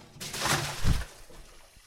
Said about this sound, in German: Plötzlich kam das Osterhasenauto und fuhr mitten durch die Pfütze. Dabei wurden die beiden Tropfen durch die Luft geschleudert und in den Gully gespült.